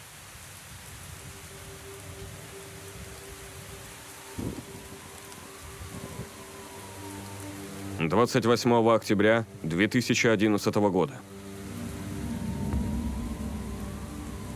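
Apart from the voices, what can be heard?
rain falling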